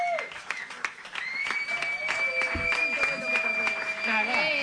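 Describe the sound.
An audience breaks into applause for a guest, a dense patter of claps that carries on steadily throughout, with sustained tones and voices mixed in beneath the clapping.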